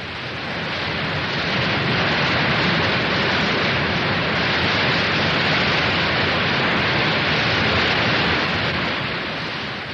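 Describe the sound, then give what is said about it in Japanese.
A steady, dense roar of rushing water as a waterfall pours into a deep plunge pool fills the whole stretch at a constant loud level with no pauses or voices. “新次郎はいつの間にか吸い寄せられるように滝壺の近くに来ていたと。”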